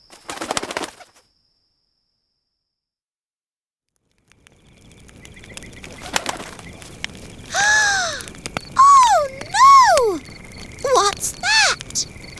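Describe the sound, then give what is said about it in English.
After a short rustle and a stretch of silence, a cuckoo gives a series of loud, swooping calls in quick bursts over faint background noise, singing at night. “Stop singing now, Cuckoo.”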